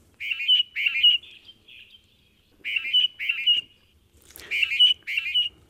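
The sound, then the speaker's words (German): Mating song of Darwin's finches from the Galápagos Islands: short, bright, buzzy chirping phrases repeated in three clusters of two or three notes each, clear, with brief pauses between bursts and no talking. “Der Paarungsgesang, den wir gerade gehört haben, könnte eine wichtige Rolle dabei spielen, dass sich die Darwin-Finken auf den Galapagos-Inseln im Laufe der Evolution in verschiedene Arten aufgespalten haben.”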